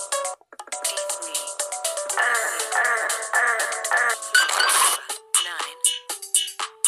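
Repeated electronic low-power warning beeps from a video game, signalling the character is very low on flower power, a series of short tonal blips sounding over busy, layered game music and chiming effects, with no one talking.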